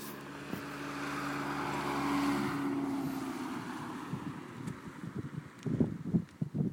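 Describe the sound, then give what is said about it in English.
A car passes along a lane, its engine hum swelling to a peak then fading away, with steady wind rushing over the microphone and some rustling and bumps toward the end. “Just watching this car, because it sounds a bit...”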